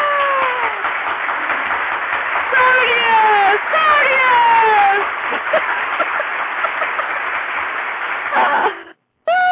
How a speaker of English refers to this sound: We need another applause for that. Yay!